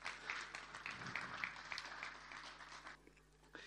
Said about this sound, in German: Vielen Dank, Applaus auch für unseren